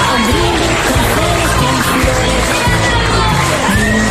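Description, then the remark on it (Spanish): A dense crowd of students at a secondary school in Burela, Mariña de Lugo, cheers and shouts continuously, a loud, steady roar of excited yelling with ovations and applause as a retiring teacher walks through the school. “Con esa máxima y con un paseillo por el centro cargado de ovaciones, aplausos y también abrazos.”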